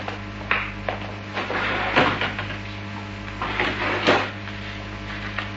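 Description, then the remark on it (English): A drawer holding cash is pulled open and pushed shut, with several wooden scrapes and knocks spread over a few seconds against a steady low hum; no one speaks. “I can get the money in a moment. It's in this drawer over here.”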